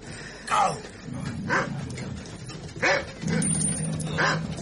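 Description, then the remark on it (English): Dogs bark in loud, irregular bursts at a dogfight in a market, about five sharp barks spread across a few seconds, over a constant rumbling, murmuring background of a gathering crowd with a faint high whine. “They were setting up barricades for a dogfight.”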